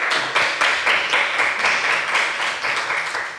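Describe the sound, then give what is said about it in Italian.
An audience applauds steadily, many hands clapping in a dense, continuous patter with small rhythmic surges, fairly loud throughout and without any voices. “E non sono solo, con me c'è anche un pubblico che invito a farsi sentire con un applauso a questo punto.”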